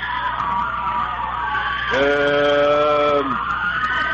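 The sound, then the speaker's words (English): At a volleyball match, a long, steady, high-pitched holler from the B Squad girls rings out for over a second above a constant wash of crowd noise, with more faint shouting and chatter in the background. “They're screaming and hollering for some reason.”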